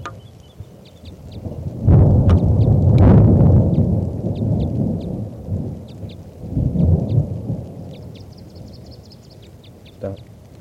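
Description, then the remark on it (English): Deep thunder rumbles roll in loud during a storm, with a second lower rumble later, over a steady hiss of rain; faint high bird calls chirp intermittently in the background. “So recording is starting to rain now, and this is still that female.”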